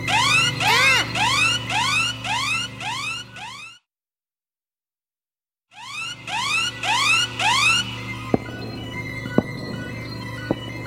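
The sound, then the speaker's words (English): A loud electronic alarm in a control room wails in rapid, repeated sweeping tones, cuts out for about two seconds, then resumes with a steady hum and a few sharp clicks underneath. “Zedo hears the alarm and finds Colin and Clara in his control room.”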